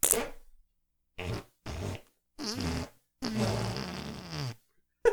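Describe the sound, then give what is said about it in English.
A series of wet, sputtering armpit farts made with a hand and armpit, several bursts of varying length separated by brief pauses, fairly loud with no talking. “We armpit farted. We farted the entire time.”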